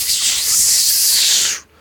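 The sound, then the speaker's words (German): A creature turns and hisses back in reply: one steady, loud, breathy hiss with a high, sharp edge, lasting about a second and a half before cutting off abruptly. No voices accompany it. “Das Wesen dreht sich auch zu dir und zischt zurück.”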